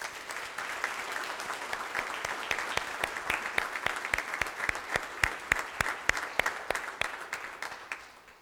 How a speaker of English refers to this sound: We wouldn't be here this morning with our freedoms if it wasn't for the efforts, the love and passion of our veterans and the soldiers who have served us so valiantly here in America. Let's give them a round of applause and thank them.